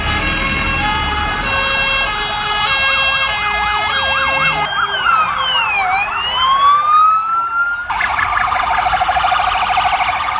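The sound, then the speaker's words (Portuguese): Sirens of fire brigade, SAMU ambulance, military police, CEMOB and IML vehicles wail and yelp together, loud, at Praça Raposo Tavares in central Maringá and along Avenida Brasil, their pitches sweeping and overlapping over steady road noise, one tone dipping as it passes. “Pouco depois, na Praça Raposo Tavares, bem no centro de Maringá, sons de sirenes.”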